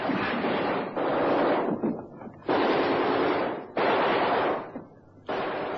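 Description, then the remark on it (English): Heavy ship's guns fire on both sides of a naval vessel as it approaches a gap, in long, loud, rapid volleys: four or five sustained bursts broken by short ragged pauses, with no voices over the din. “Tell the gunners to open up on both sides just as we approach the gap.”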